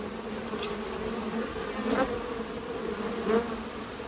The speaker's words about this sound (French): Entends-tu des abeilles, Paul? Les abeilles bourdonnent.